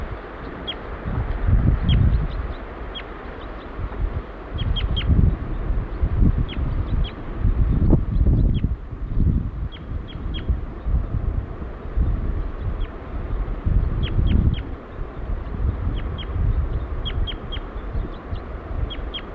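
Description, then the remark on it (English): A female bird gives flight calls: short, high-pitched call notes repeated irregularly, sometimes in quick pairs, over steady gusty wind rumble. “Female giving flight calls now.”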